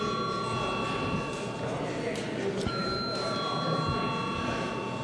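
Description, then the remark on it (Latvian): An electric bell rings continuously for the whole stretch, a steady, bright metallic tone over a low murmur of room noise, calling deputies to registration during a parliamentary sitting. “Lūdzu uz zvanu reģistrācijai.”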